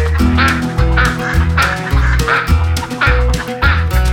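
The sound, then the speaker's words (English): A flock of ducks at a pond quack in loud, repeated bursts, overlapping at an irregular pace, with steady instrumental music playing underneath. “What's making that sound? Oh, it's a flock of ducks.”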